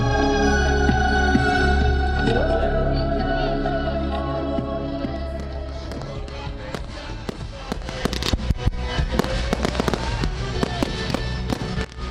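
Fireworks burst repeatedly over the Bakhmaty reservoir in Dubichi Tserkovni during the Ivana Kupala night celebration, a dense run of sharp cracks and booms over a sustained low musical drone, the explosions growing busier and louder toward the end.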